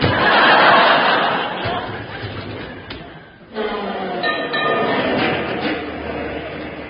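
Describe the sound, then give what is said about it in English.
A number 49 tram rolls in with a broad, noisy clatter and a brief drop midway, while an audience laughs loudly over it throughout. “Great Scott, it's a 49 tram. Then it's one of ours.”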